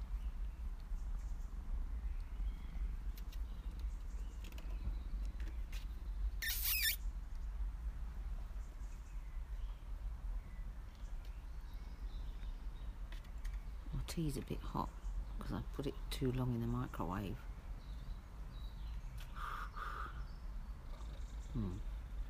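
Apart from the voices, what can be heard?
cat purring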